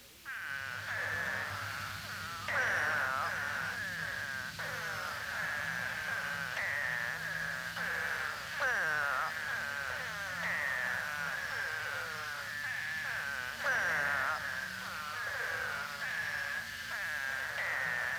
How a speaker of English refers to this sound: Spadefoots usually call for only a few days following torrential rains. Although it is most often heard in late winter or early spring, it may be heard following heavy rains at any season.